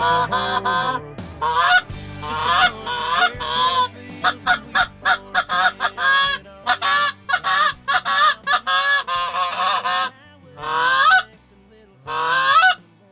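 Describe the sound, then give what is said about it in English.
A flock of geese honks loudly and continuously, harsh nasal calls overlapping in rapid bursts, with a few brief pauses before more honking resumes. “And the last thing I wanted to do was have geese come closer to the airplane”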